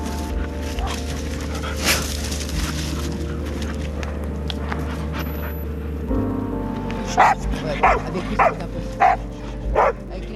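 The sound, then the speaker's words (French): Two or three dogs playing together yip and bark in short, repeated bursts over a steady low rumble of background noise, the barks growing louder and more frequent in the second half. “Ah tiens, un autre chien, même 2, 3 d'un coup.”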